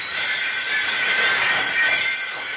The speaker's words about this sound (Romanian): Ce să fie oare? Poate s-a spart un geam. Stai să mă uit. Zgomotul a venit parcă de deasupra capetelor noastre.